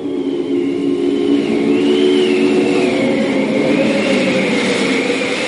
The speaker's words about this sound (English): Goodness me, what forced the wind to get up in a few minutes. What a tremendous gust. Knew that window fastening was no use. Oh, all three candles out. It's enough to tear the room to pieces.